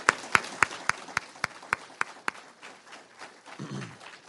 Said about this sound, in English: Let's give the Lord and our soul winners a round of applause for that.